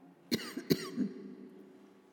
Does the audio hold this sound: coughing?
yes